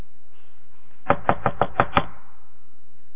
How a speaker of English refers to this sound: There's a knock at his door. And I'm standing at the door.